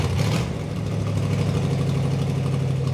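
A modified car's engine rumbles loudly with a deep, throaty drone that holds steady throughout, after a short burst of hiss at the start, on a Friday-night cruising strip in Appalachia; no one speaks.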